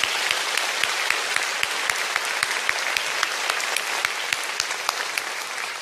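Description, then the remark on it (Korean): A church audience breaks into sustained applause for the choir and the youth praise team, many hands clapping in a dense, steady wash with sharper individual claps popping out, no voices over it, holding even for about six seconds. “그리고 오늘 멋진 찬양으로 수고해 주신 우리 찬양대 분들과 또 우리 청년부 찬양팀께 큰 격려의 박수 부탁드립니다.”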